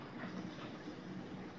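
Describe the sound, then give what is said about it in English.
A heavy truck rumbles past outside, a steady, dense low roar with a rattling, grinding texture that holds at an even loudness throughout, with no voices. “Hold on, I think I hear a truck.”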